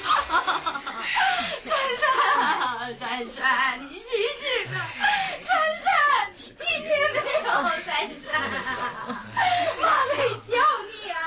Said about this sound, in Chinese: 珊珊的房里传来了一阵阵的哭声